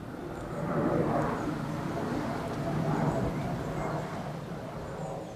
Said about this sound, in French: là c'est pour le doublé nord de Roissy, il y a deux doublés de pistes d'atterrissage décollage, il y en a une plus au sud et une plus au nord, donc là on est sous le doublé nord, et là vous voyez on a un avion qui arrive et qui va atterrir, donc...